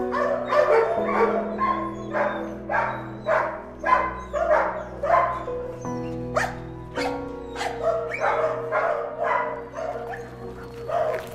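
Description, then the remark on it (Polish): Several dogs bark and yip repeatedly in a rapid, overlapping chorus, loud, with short sharp calls over a steady low hum in the background. “Rusza do tych piesków strasznie.”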